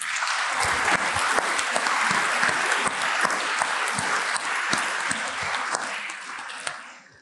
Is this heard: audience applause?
yes